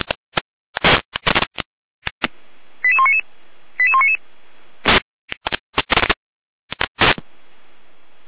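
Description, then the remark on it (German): Two short runs of rapid, stepping electronic fire brigade alerting tones from the Jena control centre (Leitstelle Jena), sent for Gera over a radio channel, framed by bursts of hissy radio static and squelch clicks. No one speaks. “Gera mit Alarmierung.”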